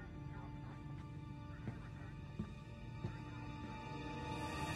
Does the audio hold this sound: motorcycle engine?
no